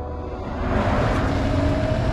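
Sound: car driving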